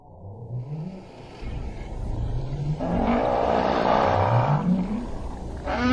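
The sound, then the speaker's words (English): Northern right whales call in a series of low, rising moans along the western edge of the Atlantic Ocean, singing out to others of their species while looking for food; several overlapping upsweeps repeat over a steady rush of underwater noise that swells louder midway. “Blimp-sized whales with jet black flukes glide back and forth along the western edge of the Atlantic Ocean every year at about this time, looking for food and singing out to others of their species.”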